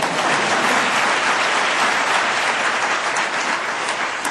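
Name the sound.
audience clapping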